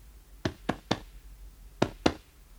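Dull thumps of a doctor's hand tapping on a patient's left side during an examination: three quick taps in a row, a short pause, then two more, with no talking.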